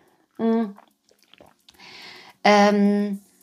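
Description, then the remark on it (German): A sip of water on a hot day: a short voiced hum, faint swallowing clicks, a soft breathy slurp, then a louder, drawn-out vocal "ahh" of relief. “also erstmal Prost, einen Schluck Wasser hier bei der Wärme.”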